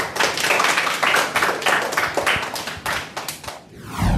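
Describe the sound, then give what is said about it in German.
A small burst of hand clapping, two athletes applauding the children after a 2024 press conference with quick, uneven claps for about three and a half seconds before it trails off, with no voices. “Deshalb jetzt gibt es erstmal einen Applaus von unseren zwei Sportlern für euch.”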